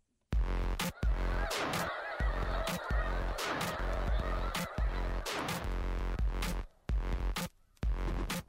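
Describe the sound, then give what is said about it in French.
A large flock of snow geese honking continuously, many overlapping calls forming a dense, loud chorus with sharp individual honks punctuating the noisy background of the gathered birds. “Les oies blanches sont un peu le fleuron de nos oiseaux migrateurs.”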